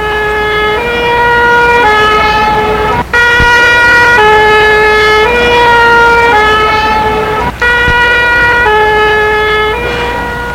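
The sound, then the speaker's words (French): A fire engine siren blares loudly as firefighters are called out, its two-tone wail alternating steadily between high and low pitches, broken by two brief cutoffs, with a low traffic rumble underneath. “Les pompiers ont été appelés.”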